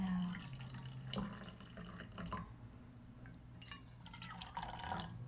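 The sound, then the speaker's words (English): A small amount of brewed coffee, not enough to fill them, is poured into cups, a steady trickle with small splashes and drips that runs for several seconds with no one talking. “I only brewed a little bit, so it's not going to fill our cups, but that's fine.”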